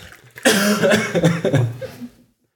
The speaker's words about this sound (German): Ich muss mal husten. Dann huste.